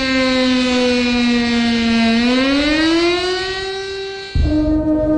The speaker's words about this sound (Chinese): 歌唱毕，全场向南京大屠杀死难者默哀，南京市拉响防空警报，汽车停驶鸣笛，行人就地默哀。